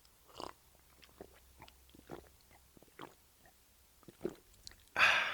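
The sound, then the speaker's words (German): Someone takes a drink of water: a series of small wet mouth clicks and gulps at an uneven pace, then a loud breathy burst at the end. “Schlückchen Wasser zwischendurch.”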